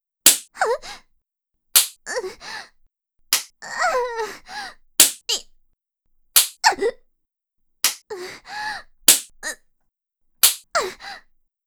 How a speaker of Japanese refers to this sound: 大勢の女子たちが変わる変わる私をビンタしていきます。